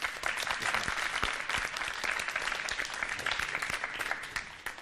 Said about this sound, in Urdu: Team اے نے انتخاب کیا ہے اس لڈو کا یا ان لڈوؤں کا. ان کی حوصلہ افزائی کیجیے گا زوردار تالیوں کے ذریعے.